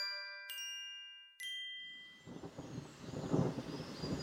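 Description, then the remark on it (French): Two bright chime strikes ring out, then a deep rolling rumble of thunder builds and grows louder, swelling into a heavy stormy roar by the end as a storm breaks out and rain begins. No one speaks. “Tout à coup, un orage éclata et il commença à pleuvoir.”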